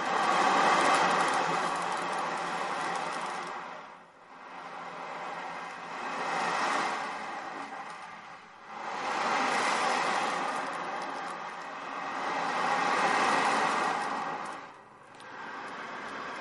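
An instrument imitating ocean waves: a steady, broad rushing hiss that swells and ebbs in slow surges, about four waves in all, with no voices over it.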